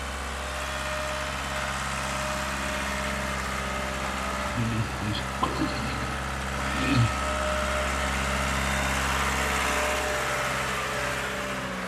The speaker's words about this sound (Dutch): Oh, wacht, dat is een kraan hier.